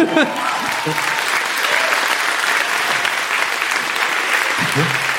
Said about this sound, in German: Und einen Riesenapplaus